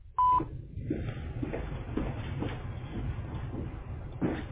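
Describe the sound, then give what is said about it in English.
A single short, steady electronic voicemail beep on a DBJ Construction voicemail line sounds near the start, then gives way to several seconds of muffled, band-limited phone-line noise with faint background rumble. “Please leave a message after the beep. At the tone, please record your message.”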